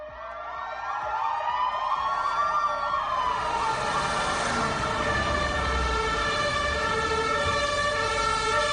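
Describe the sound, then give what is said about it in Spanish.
Sirens of several ambulance, police and fire vehicles wail and overlap, rising and falling loudly over a steady rumble of city traffic in central Santander, Spain, as the vehicles race at high speed to Calle Juan de la Cosa, where a fifth-floor flat was on fire. “Han pasado 7 días, una semana desde que por el centro de Santander, ambulancia, policía y bomberos se dirigían a gran velocidad a la calle Juan de la Cosa.”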